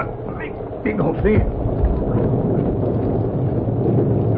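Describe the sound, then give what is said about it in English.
An injured collie puppy with a broken leg whimpers from behind underbrush near a cliff, in a few brief, high, wavering whines, over a steady rushing, windy background noise that continues after the whimpers fade. “Sound like a little dog.”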